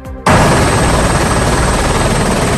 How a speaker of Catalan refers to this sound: Aquest és l'helicòpter que des d'avui i cada dia durant setmanes s'enlairarà per revisar els 50.000 quilòmetres de línies elèctriques aèries que hi ha a Catalunya, sobretot els 20.000 que travessen zones forestals.